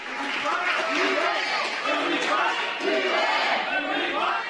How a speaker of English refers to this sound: The Seattle City Council has unanimously approved a so-called head tax, a tax per employee on large businesses. It was a compromise measure, and after the vote, there were chants.